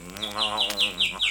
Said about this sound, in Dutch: Toch is die vogel ook een koning. Winterkoning noemt hij zich.